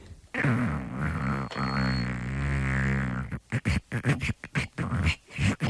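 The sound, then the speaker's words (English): A voice imitates an 80-year-old woman snoring with a long, rasping, throaty drone that stretches for about three seconds, then breaks into a series of short, choppy gasping snorts and sputters. “An 80-year-old woman snores like this.”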